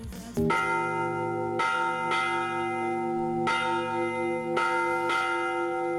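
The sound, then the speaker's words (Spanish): The bells of the Pilar in Zaragoza, Spain, ring out loudly and continuously as the Real Zaragoza players arrive after the team's first win of the season, several strikes overlapping in a steady peal with rich, sustained ringing tones and no voices. “Las campanas del Pilar volvían a sonar y es que parecía que no llegaría este momento.”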